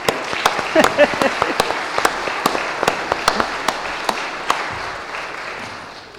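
A round of applause from a crowd, many hands clapping in a dense, steady patter with a few sharp claps standing out, holding fairly level before thinning slightly toward the end.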